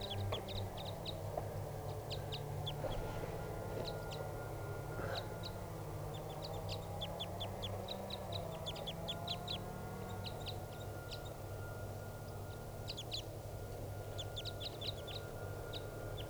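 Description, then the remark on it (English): A wild crossbill calling from the top of a tall tree, ready to take off: bursts of sharp, high, clipped chip notes repeated throughout, rising above a steady low rumble in the background. No one speaks. “Recording the bird's calling now, ready to take off.”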